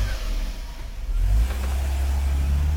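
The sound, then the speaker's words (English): An out-of-tune car engine revs loudly, a rough low drone that surges in pitch and volume partway through, then holds steady, in an AutoZone advertisement. No one speaks. “This is what driving with an out-of-tune engine feels like.”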